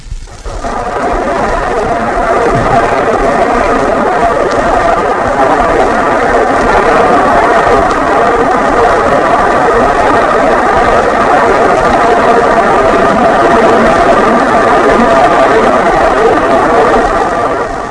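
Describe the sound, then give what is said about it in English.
A steady, dense motor hum from a submarine's motors drones without pause, with a rapid, regular churning of its propeller beats running through it. No voices, and the level stays constant from start to finish. “Both the steady hum from the motors and the propeller beats stand out clearly.”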